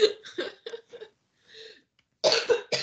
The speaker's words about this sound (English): Okay, I can't stop coughing, so I'm going to have to wrap this up.